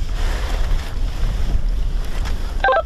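A friendly (own side's) drone flying overhead, heard as a steady, low droning rumble mixed with wind-like noise throughout, followed by a brief cluster of higher chirping tones at the very end. No one speaks.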